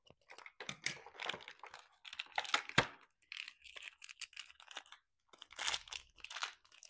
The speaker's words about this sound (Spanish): Bueno, pues nos faltan 2 puertas que serían esta de aquí y esta otra puerta. Vamos a abrirlas. Pero con un poco de magia. Con las tijeras mágicas.